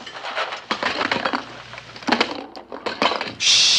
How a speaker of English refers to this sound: Sultan rears up, pouring tins off the shelves.